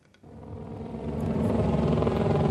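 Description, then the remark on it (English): A deep, throbbing engine rumble swells in after a brief quiet start and grows steadily louder as a helicopter hovers overhead in Washington, D.C., while masked police officers line the streets to farewell fallen Capitol Police Officer Brian Sicknick; no voices. “As a helicopter hovers overhead, police officers wearing face masks line the streets of Washington, D.C. to farewell a fallen colleague.”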